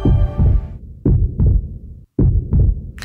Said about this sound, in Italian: Sincronizziamo i battiti del nostro cuore.